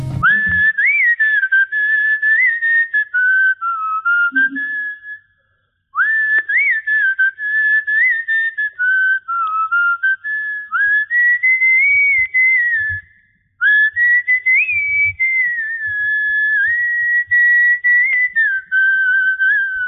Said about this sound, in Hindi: और मैं एक डुएट सीटियों का गाना सुनना चाहता हूँ.